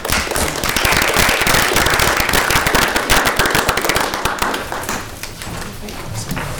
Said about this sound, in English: Everyone, please give him a round of applause.